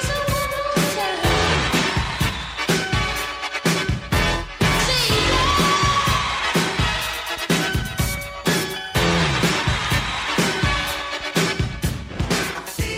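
A roaring crowd cheers and shouts over loud, driving music with a steady pounding beat, with a singing voice buried deep in the dense, continuous mix; a sample from a 1963 record used on a 1984 pop hit.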